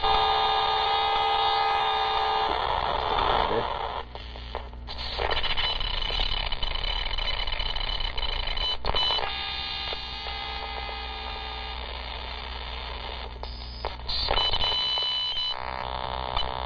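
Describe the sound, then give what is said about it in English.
A computer prompt sound: soft electronic tones over a constant low electrical hum, broken by a few brief clicks, with no one speaking. “Another prompt type sound.”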